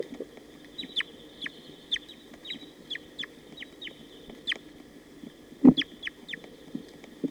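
A playback of recorded calls of bird 237: a steady series of short, high chirps, about a dozen evenly spaced notes, over a low rumbling background with one brief louder thump near the end.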